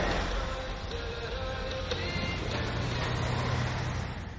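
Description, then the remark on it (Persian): A steady, dense rumble of several heavy army vehicles driving toward a large swamp at Tarago beach on an island, engines droning continuously at an even loudness with low mechanical hum throughout and no voices. “انگار چند تا ماشین از نیروی ارتش دارن میرن سمت مرداب بزرگ.”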